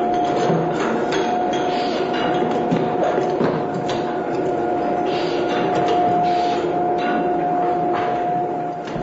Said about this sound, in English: Now, that's a sound common to just about every winery you can visit. In this case, though, it's the bottling room at Cuvaison after the aged wines have been okayed by Philippe Tognier, president and winemaker of the company.